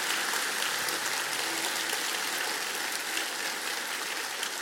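A church audience in Quito, Ecuador claps steadily for several seconds, a dense, continuous patter of many hands at an even, moderate loudness with no voices over it.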